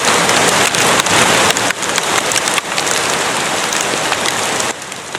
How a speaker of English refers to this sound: A female osprey was pelted by hail during a storm in Colorado Tuesday night.